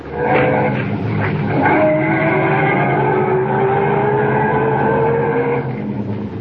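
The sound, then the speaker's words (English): A loud car engine revs and pulls away up the road, its pitch climbing steadily over a rough, noisy rumble that holds strong before easing slightly at the end. No one speaks. “Get back in the car and head up the road again.”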